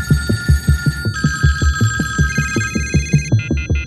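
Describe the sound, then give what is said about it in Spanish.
A landline telephone at home rings with a rapid electronic trill, its bright tones pulsing steadily in close succession, loud, with no voices present. “Yo había ido recibiendo llamadas en casa, al teléfono fijo, en las que cuando yo contestaba, colgaban.”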